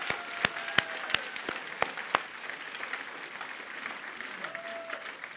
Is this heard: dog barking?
no